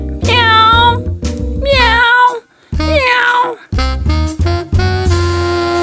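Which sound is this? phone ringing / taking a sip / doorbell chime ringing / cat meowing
cat meowing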